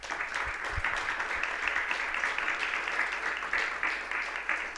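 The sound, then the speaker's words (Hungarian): Steady applause from an audience at an event, clapping for a participant, many hands clapping in a dense, continuous wash at even loudness for several seconds, with no voices over it. “Egy tapsot szeretnék kérni neki.”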